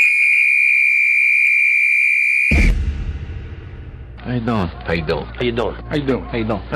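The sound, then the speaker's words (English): A loud, steady whistle blast, blown to start the clock on a show, sounds alone for about two and a half seconds, then cuts off into a brief rumble of background noise before a man starts talking. “The clock starts on my whistle.”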